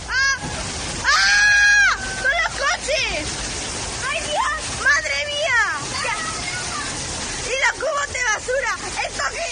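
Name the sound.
floodwater rushing through streets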